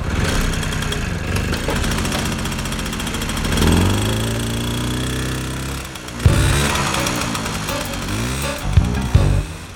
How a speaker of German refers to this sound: Der erste Detektiv sprang auf das Motorrad und preschte los.